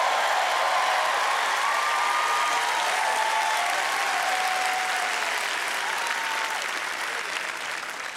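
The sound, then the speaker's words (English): An audience claps steadily and loudly for several seconds in thanks to God for Jesus, a dense, continuous wash of many hands with no break, a few faint voices rising now and then beneath it. “You're not going to clap more for your blessing than you are for Jesus.”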